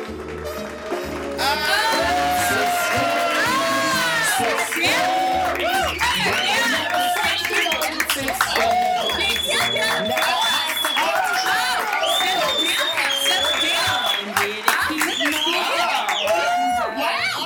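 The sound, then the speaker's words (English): A show audience erupts in sustained applause and cheering as guests are brought out, with overlapping whoops and excited voices rising over steady clapping for the whole stretch, loud and dense from start to finish. “Applause like that since I was on that bar stool with my legs on my head.”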